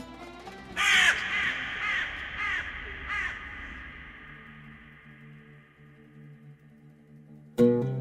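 A crow gives a loud, harsh caw, then three or four shorter caws in a steady rhythm that grow fainter over a low sustained drone, before one more sharp caw at the end.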